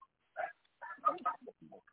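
A dog gives a quick run of short, yappy barks and whimpery yips, one bark followed by a rapid cluster of several more, moderately loud and fairly high-pitched.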